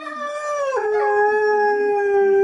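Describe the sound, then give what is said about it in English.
Hounds bay in a long, drawn-out howl, the pitch sliding down sharply at first and then holding steady as a loud, sustained cry. No talking. “Those hounds are baying.”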